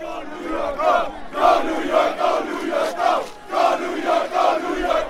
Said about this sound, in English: One down and hopefully just three to go for the Knicks. The watch party packed inside the garden, outside a sea of people, thousands on 7th Avenue.